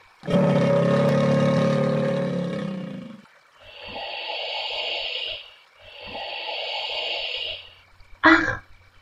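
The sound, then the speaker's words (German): A hippopotamus in the water lets out a deep, rumbling grunt, followed by two long, hissing snorts and a brief final snort, loud with no talking. “Das Krokodil. Und auch die Nilpferde.”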